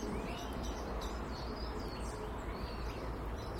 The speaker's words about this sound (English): Lots of bird song this morning, lots of bird activity in the trees, the feeders.